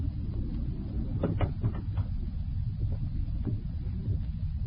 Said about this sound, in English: Close the door, Nishiko.